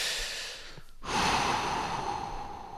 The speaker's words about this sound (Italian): E se tu inizi a respirare in modo profondo, inizierai a predisporre la tua mente a pensieri positivi, di relax.